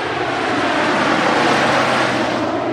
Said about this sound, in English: Back on the landing strip, two planes, a small one followed by a massive C-130 Hercules air tanker, approach where I'm standing.